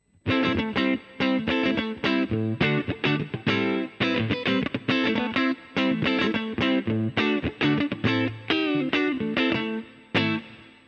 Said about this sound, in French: Si je vous joue à peu près le seul riff un peu funk que je connais de …, ça nous donne ça.